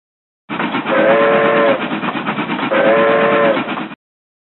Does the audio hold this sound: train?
yes